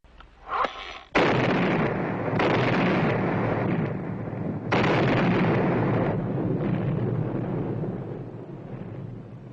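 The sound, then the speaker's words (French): A thunderous explosion of a British fort in a film scene bursts in after a brief rumble, followed by sustained roaring blasts and crackling debris that swell again midway, then slowly subside, with no voices. “puisqu'il s'agit de l'explosion du fort britannique”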